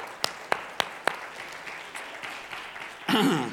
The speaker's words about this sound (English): Can we just give a hand clap?